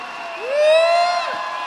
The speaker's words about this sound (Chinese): 大家俾啲掌声。